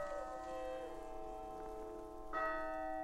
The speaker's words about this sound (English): He can't hear the bells or the sweet singing choir.